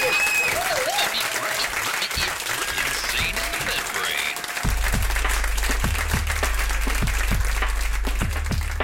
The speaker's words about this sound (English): Thank you for coming. Richard Gadd, round of applause for Richard Gadd. Thank you very much.